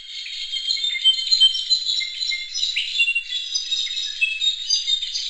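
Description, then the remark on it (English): A brown-backed solitaire, a thrush common in Mexico, sings a continuous, high-pitched stream of squeaky, metallic, tumbling notes, steady in loudness for several seconds with no voices, in Miller Canyon, southern Arizona, where the species is rarely documented. “It was a brown-backed solitaire, a thrush that's common in Mexico, but one that's rarely been documented north of the border.”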